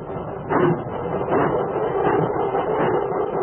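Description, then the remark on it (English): Rumbling train cars clatter along the rails with a steady, repeating rhythm of clanks and bumps, fairly loud, with no voices, in the railroad yard of the Erie and Huron line at Chatham Station on a chill fall afternoon in 1887. “young Jim Cousins stood in the railroad yard of the old Erie and Huron line in Chatham Station”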